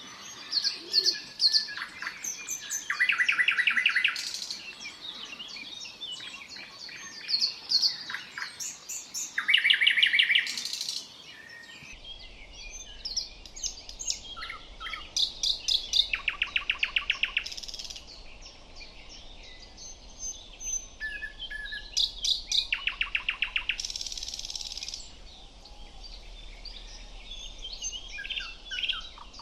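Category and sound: bird, nightingale song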